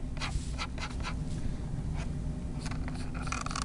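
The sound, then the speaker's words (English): Scratching of a drawing pencil or Japanese brush pen moving across paper in short, irregular strokes as someone draws, with a steady low hum underneath and no talking. “reached into his old-fashioned box filled with drawing pencils and Japanese brush pens and got to work.”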